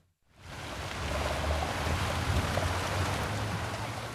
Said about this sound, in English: Outside Be'er Sheva City Hall, an avenue of fountains gently splashes.